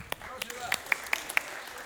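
Scattered, uneven hand claps from a small audience, a handful of sharp claps over soft background murmur rather than a full burst of applause.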